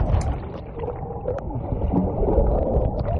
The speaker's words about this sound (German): Wieder nicht geschafft. Was hier zu hören ist, war einer von vielen Versuchen, mich auf Wasserskiern zu halten. Doch mal wieder bin ich baden gegangen.